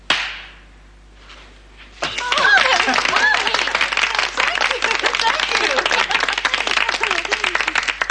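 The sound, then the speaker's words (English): A hypnotist gives one sharp hand clap to wake a hypnotized person, then after a short pause a crowd breaks into loud, sustained applause, many hands clapping rapidly and steadily until the end, with faint voices mixed in. “Okay, when I clap my hands, you will wake up, and you will remember nothing of what just happened.”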